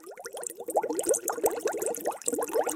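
bubbles in water

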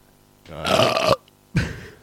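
fart

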